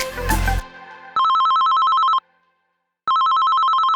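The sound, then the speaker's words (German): A telephone rings with a call from a gynaecologist, in two long, buzzing bursts separated by a pause of silence, each ring a loud trilling electronic tone. A brief dull noise precedes the first ring. “Ein Anruf von der Gynäkologin und plötzlich ist alles anders.”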